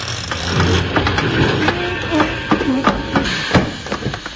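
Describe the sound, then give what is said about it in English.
A loud mechanical rumble of a train grinding to a halt as its brake is applied, with rapid clanks and knocks and a brief squeal midway before the noise settles. “Now, where's that brake thing in the train?”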